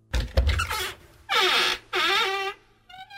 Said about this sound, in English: The squeaky advent calendar that we have here. It's very squeaky.